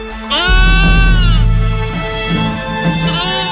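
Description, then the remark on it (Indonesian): A fat-tailed sheep on a high hillside bleats loudly, one long wavering cry followed by a second, softer bleat, with no voices around it. “Kambing kibas, wedhus gembel, tak tangkap kamu.”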